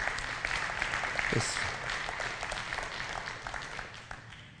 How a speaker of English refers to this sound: Crowd noise.